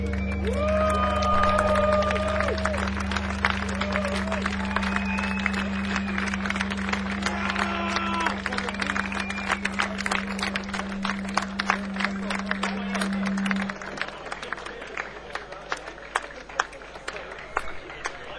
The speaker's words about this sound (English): Thanks for clapping.